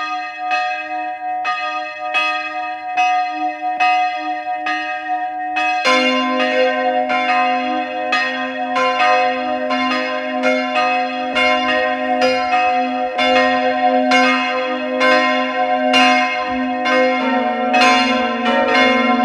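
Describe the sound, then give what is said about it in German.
Church bells of the parish church of St. Georgen am Weinberg in Carinthia, Austria, ring out continuously at noon. A single bell tolls steadily before more bells join in around six seconds, building into a full, overlapping peal that rings loud. “Sie hören die Glocken der Pfarrkirche St. Georgen am Weinberg in Kärnten.”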